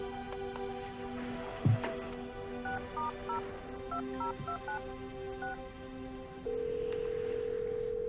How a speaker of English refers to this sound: She sits up on the bed, pulls out her phone, and dials.